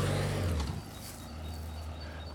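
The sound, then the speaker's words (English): A car drives past, its low engine rumble dropping in pitch as it passes, then a steady road hum continues. No one speaks. “And so this weekend was a chance, just let this car go past.”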